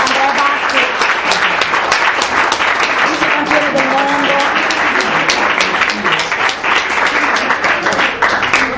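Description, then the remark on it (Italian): Sustained applause from a crowd at a ceremony where plaques are presented for the Progresso Fontana sports club by the Comune di Castelmaggiore, dense and steady clapping that stays loud for the whole stretch, with some indistinct voices mixed in among the claps. “Un altro applauso. Un applauso.”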